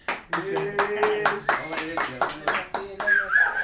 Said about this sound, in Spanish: Bueno, este es el taller de Radios Libres de la Cornelio. Bienvenido, un aplauso.